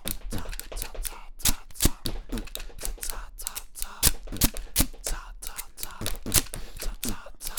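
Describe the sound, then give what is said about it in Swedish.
Busy rattling and clicking of a tape roll and pen being handled while making a song, with dense irregular taps and knocks running continuously for several seconds at moderate loudness. “Jag låter och stojar med allt jag kommer åt. Ingen vet hur det här ska sluta med en tejprulle och penna.”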